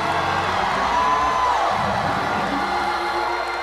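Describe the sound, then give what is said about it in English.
A large audience in Elkhart, urged by a speaker to scream at the top of their lungs, shouts and cheers continuously, a dense wall of overlapping voices and whoops that stays loud and steady throughout, with one higher voice rising briefly above the roar. “I said scream, there's a devil loose.”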